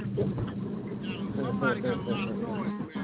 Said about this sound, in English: Hey, man, who in the semi-truck, man, with all that goddamn noise? Go mute.